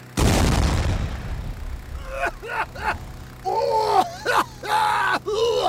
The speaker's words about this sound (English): Stand by the fog machine! Cue explosion! Action!